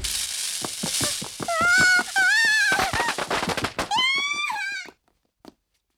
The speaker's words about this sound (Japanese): おいおいおい、なんだこれ。ネズミ花火か。懲りないやつだなと。